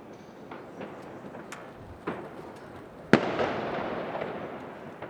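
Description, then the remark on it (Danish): New Year's Eve fireworks going off outside, heard through an open balcony door: scattered pops and crackles, then one sharp loud bang followed by a long rumbling, crackling tail. No one speaks. “Jeg kan forestille mig, at det lød som nytårsaften.”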